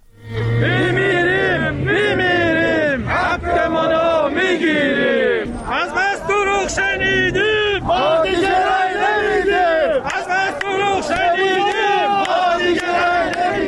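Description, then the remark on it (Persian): A crowd of protesting social security retirees in Kerman and Shush, Iran, chants slogans in unison after entering social security buildings. The chanting is loud and continuous, with rhythmic shouted phrases rising and falling in steady bursts over a constant background of crowd noise. “بر اساس فیلم‌های منتشر شده در شبکه‌های اجتماعی، بازنشستگان در کرمان و شوش وارد ساختمان‌های تأمین اجتماعی شدند و شعار دادند.”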